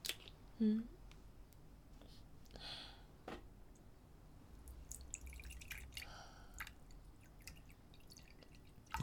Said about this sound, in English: Sorry, you must be sweltering. How about I pour you a nice cold drink?